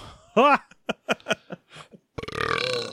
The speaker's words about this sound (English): don't just burp right into the mic. What the fuck, man?